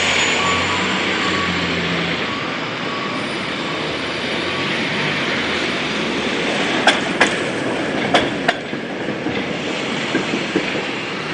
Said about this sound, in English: And then coming up in just a moment behind it is a traditional streetcar. The streetcar looks like a really, really, really, really old bus.